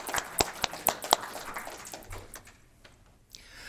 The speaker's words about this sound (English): So I'd like to clap and thank us all for this.